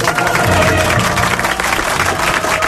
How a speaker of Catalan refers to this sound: Bé, doncs escolta, un doble aplaudiment.